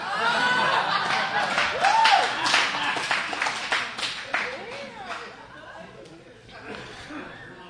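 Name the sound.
audience clapping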